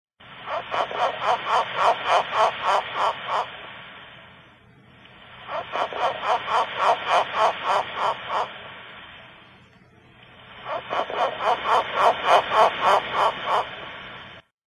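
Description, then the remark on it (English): A frog calls in three long bouts of rapid, pulsing croaks, each several seconds long with short pauses between, loud with no voices. “It's a piggy. A frog.”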